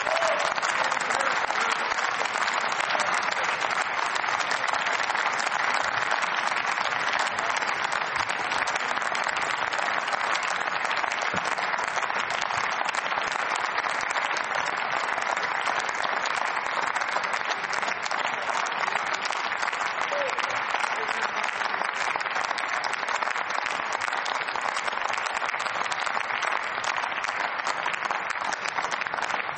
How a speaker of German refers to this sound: Im Namen des Parlaments, Sie haben es gerade am Applaus gehört, ein herzliches Dankeschön für die gute Zusammenarbeit.